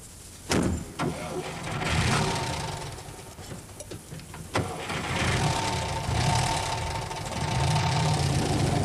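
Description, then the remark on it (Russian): A car engine starts with a few sharp clunks, then revs and rumbles steadily as a fine-looking car pulls away and drives off, fairly loud with no voices. “Пьер смотрел, как отъезжал его брат, и странное, гнетущее чувство охватило его.”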